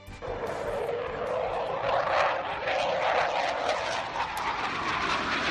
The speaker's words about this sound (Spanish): ¿Cómo suena, eh? Es una pasada. Es que desde hoy hasta el próximo 1 de junio vas a poder ver una maqueta a tamaño real de un Eurofighter. Este sonido que estamos escuchando, el caza más moderno de Europa en la explanada de del cuartel general del